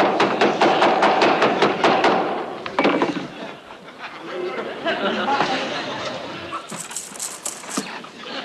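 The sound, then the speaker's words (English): A rapid series of sharp hammer blows pounds a watch wrapped in cloth for a few seconds during a magic trick, followed by murmuring voices and light laughter. “We have the cloth and a hammer. And now... He will destroy the watch.”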